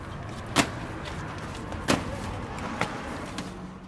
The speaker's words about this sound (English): The staff members load blankets, food, and medications on a small truck and head off to one of Sana'a's poorest areas.